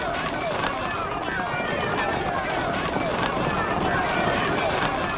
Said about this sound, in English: Let the horse rider pass!